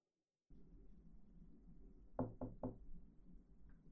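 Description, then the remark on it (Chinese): Three quick, firm knocks on a door in an even rhythm, clear over a low, steady background hum, with no one speaking. “我来了，快给我开门！”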